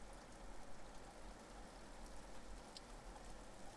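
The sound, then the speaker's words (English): Steady rain falls in a continuous soft hiss, fairly faint and even throughout, with no voices and no distinct individual drops standing out. “It was raining that day, just like now.”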